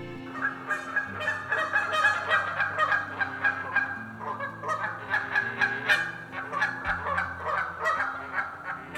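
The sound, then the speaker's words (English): A flock of Canada and greylag geese wintering in Britain honk continuously, many overlapping calls forming a loud, busy chorus with no talking, steady throughout. “You might hear their honks like this while out on a walk.”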